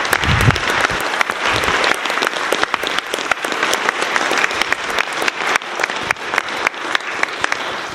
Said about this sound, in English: could I get the two pages to stand up? All right. So they concluded their week up, and it's time to give them a big round of applause and thank you for your help and your continued perseverance of everything you're doing.